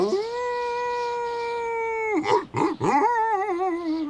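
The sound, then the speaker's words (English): A dog howls alone in the fog: one long, steady, loud note that breaks into a few swooping dips, then resumes as a wavering, warbling howl that slowly falls in pitch. “That wasn't the wind. I think it might have been a dog.”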